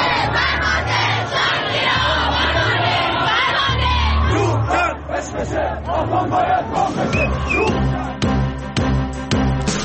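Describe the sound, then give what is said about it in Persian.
A large crowd of protesters in the streets of Khuzestan, Iran, at night, in solidarity with the people of Abadan after the Metropol tower collapse, chants and shouts together in a loud, continuous roar, with rhythmic rising calls and a sharper burst of clapping or percussive noise near the end. “مردم خوزستان در همبستگی با مردم آبادان شب گذشته به خیابان‌ها آمدند.”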